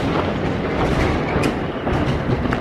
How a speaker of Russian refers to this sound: Вот, видите, это был опять гром. Вот так происходит буквально каждую минуту.